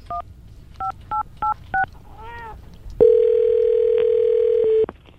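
Five short telephone keypad dialing tones beep in quick succession, followed by a brief warbling chirp and then a long, steady ringing tone lasting nearly two seconds, loud with no talking, as someone dials to call a singer's mother.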